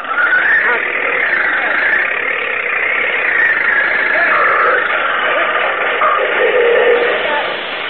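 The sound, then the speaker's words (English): A tractor engine labors under load as it drags out something caught on a big root, a steady, gritty mid-pitched roar holding loud for about eight seconds, with the tone wavering slightly as it strains. “This tractor's got power enough to drag it out.”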